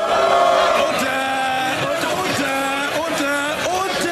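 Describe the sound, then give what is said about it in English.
Members of the UK Parliament shouting and yelling over one another, a loud, continuous din of overlapping raised voices with pitches rising and falling throughout. “That's members of the UK Parliament screaming at each other.”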